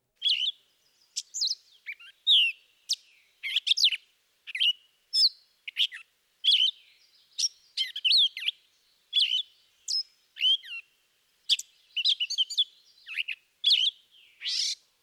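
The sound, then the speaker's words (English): A gray catbird sings a long, disjointed run of short, varied phrases, squeaky, harsh and nasal notes with occasional sweet notes, in quick bursts separated by brief pauses, not consistently repeating its phrases, fairly loud and with no voices. “The last of the mimics is the gray catbird.”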